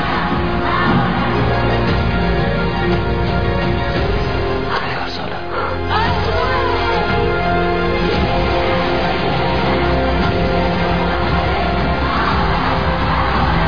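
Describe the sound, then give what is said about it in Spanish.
A loud protest crowd in the streets demanding freedom for Belén shouts continuously, many voices blending into a dense roar with scattered yells and whoops rising above it, steady in volume for the whole stretch. “Escuchen, porque esos gritos no van a parar.”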